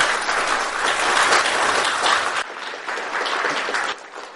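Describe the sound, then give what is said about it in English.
Sustained applause from a sizable audience for the courage of a young person who shared a verse, a dense, steady wash of clapping that holds fairly loud for several seconds with slight dips in intensity, and no one speaking over it. “round of applause for the courage that it takes.”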